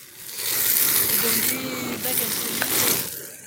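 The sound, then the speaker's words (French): Food sizzles steadily in a hot frying pan, a dense crackling hiss, while a utensil stirs and scrapes through it with a few soft clinks, fairly loud throughout. “Et ça me permet de patouiller dans ma casserole sans abîmer la casserole. Enfin, la poêle.”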